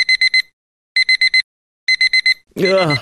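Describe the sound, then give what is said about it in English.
A digital alarm clock beeps in three quick bursts of four sharp, high-pitched tones with short pauses between, loud, before a voice cuts in at the end. “Is this the sound you woke up to this morning? No, me neither. It could well have been more like this.”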